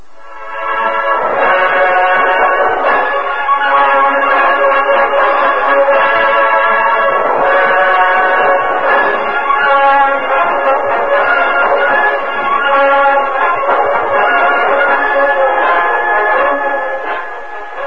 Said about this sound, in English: When the Lone Ranger, Tonto, and Pete Morgan reached the station platform, the train had disappeared into the darkness.